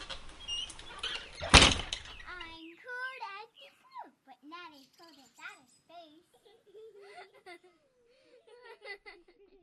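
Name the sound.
door being shut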